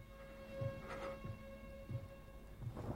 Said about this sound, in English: Daytime. Rain falls and wind blows the trees nearby to the writer's white brick shed.